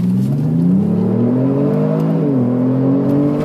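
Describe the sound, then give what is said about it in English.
A deep chroma blue automatic car's engine revs hard as it accelerates, its pitch climbing steadily, dipping briefly at a gear change, then rising again. Loud and continuous, with no voices. “It is blindingly quick.”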